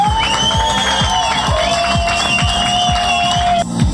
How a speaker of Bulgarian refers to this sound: Аплодисменти за първо място.